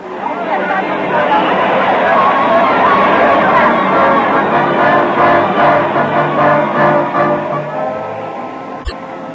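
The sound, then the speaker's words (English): Busy city street din, a steady, loud wash of traffic and crowd chatter that holds for the whole stretch, with a brief sharp click near the end. “From the sounds, I'd say if we could cross this street, we could cross anything.”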